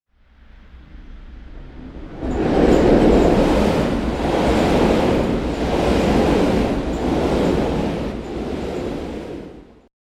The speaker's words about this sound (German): Der Zug.